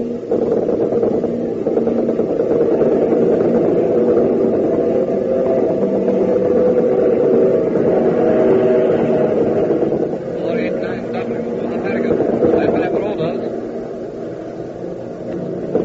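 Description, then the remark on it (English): The propeller engines of a Spitfire fighter plane drone steadily and loudly throughout, a thick, continuous roar that dips slightly near the end, with brief crackly bursts layered on top partway through. “Oh, boy, I can now. The Spitfire just got here.”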